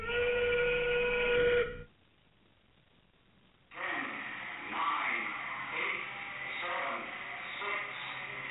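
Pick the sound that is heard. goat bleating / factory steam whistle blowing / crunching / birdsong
factory steam whistle blowing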